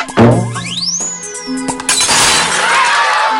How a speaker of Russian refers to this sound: Вместо мяча королева использовала ежа, по которому она ударяла головой фламинго. Ведь фламинго заменяли биты. Королева сделала удар.